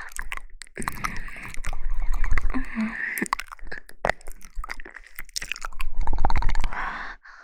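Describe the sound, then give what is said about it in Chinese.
Wet chewing and mouth sounds, with irregular smacks, clicks and slurps coming in quick uneven bursts at moderate loudness, with no talking. “让我好好尝一尝。”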